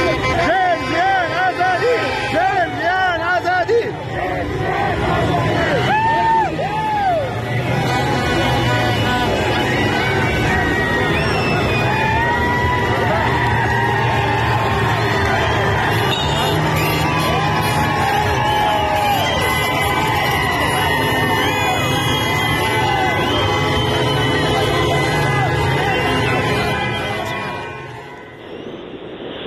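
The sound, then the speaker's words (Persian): A large crowd celebrates in the street in Sanandaj, Iran, with dense overlapping cheers, whoops and shouted chanting over a steady roar of voices and whistles, loud throughout before fading at the end. “دیشب سراسر شادی بود در جوانرود کرمانشاه، آنچه که میومد صدای پشپشه، ترقه، دست، سود، رقص و شعار.”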